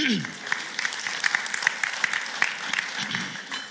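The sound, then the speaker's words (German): An audience gives a man another round of applause, a dense wash of many hands clapping steadily at an even, moderate loudness for several seconds before easing off slightly at the end. “Gebt ihm nochmal einen Applaus, bitte.”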